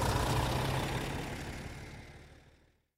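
A large bus engine idles with a steady low rumble and a broad hiss, fairly loud, gradually fading away over a few seconds, as passengers get on the bus into town on a Saturday morning. No one speaks.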